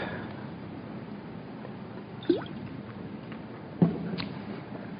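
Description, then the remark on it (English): A quick sip of a drink: two short, wet slurping clicks a second or so apart, over a quiet, steady background hiss with no talking. “Just need a quick sip.”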